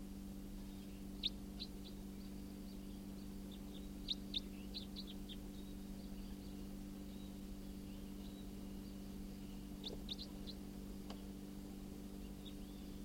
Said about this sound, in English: Oh, that's it. Wild bird. Stop. Bird's giving flight calls now.